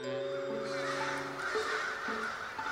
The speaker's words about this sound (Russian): Вороны, облепившие шпили собора святого Бонифация, поднялись, закружились, усыпали все небо зловещим карканьем.